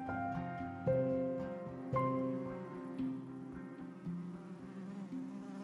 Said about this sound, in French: Les abeilles parcourent les fourrés, butinent les fleurs vermeilles et effleurent légère la surface de l'eau. Transportées de je ne sais quelle douceur de vivre, elles façonnent avec art la cire nouvelle et composent leur miel.